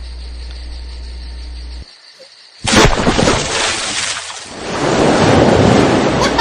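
After a low hum and a moment of near silence, a sudden, loud splash of water bursts out, followed by several seconds of heavy churning and sloshing.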